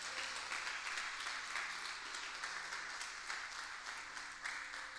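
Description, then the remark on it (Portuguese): An audience applauds steadily in praise of God during a sermon, a dense wash of many hands clapping that holds at an even level for the whole stretch, with no voices standing out. “Se você está comigo, aplauda Ele, porque Ele é digno.”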